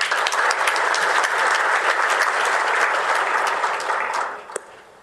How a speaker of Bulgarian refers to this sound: Моля да ги поздравим и вашите аплодисменти за тях.